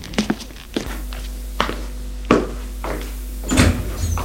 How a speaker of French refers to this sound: Le domestique a fermé la porte.